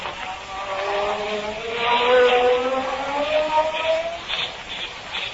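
A magic ray sound effect burning off handcuffs: a continuous buzzing electronic whine whose layered tones slowly bend and climb in pitch, holding fairly loud for about five seconds with no voices.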